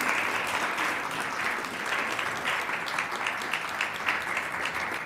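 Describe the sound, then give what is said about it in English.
A warm round of applause from an audience at VCU welcoming a guest speaker, a steady, dense patter of many hands clapping at an even volume throughout, with no voices speaking over it. “so please help me in giving her a warm round of applause.”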